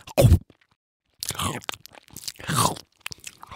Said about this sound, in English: The anglerfish uses this light to lure other fish and sea creatures towards him. And then, chomp.